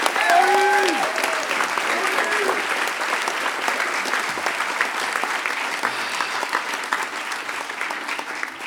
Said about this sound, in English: give him a huge, huge round of applause.